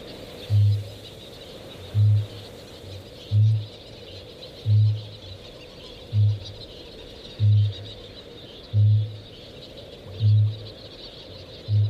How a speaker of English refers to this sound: Kākāpō, the booming of the male kākāpō is a little bit like the heartbeat of the land.